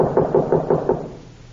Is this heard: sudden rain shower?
no